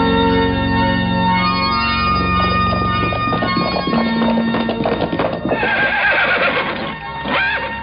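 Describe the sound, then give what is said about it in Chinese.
Rapid galloping horse hoofbeats pound in a steady, hurried rhythm outside a village stockade, over a sustained tonal background, and a horse whinnies shrilly toward the end. No one speaks. “这个时候公寨外面忽然响起了急促的马蹄声”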